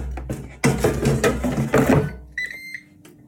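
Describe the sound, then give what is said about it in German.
Clattering, rustling handling noise as the basket holding fish fingers goes back into a kitchen appliance gives way to its short, high-pitched electronic beep, followed by a faint low hum of its fan starting again and a brief trailing chirp. “Ihr habt das Piepen gehört.”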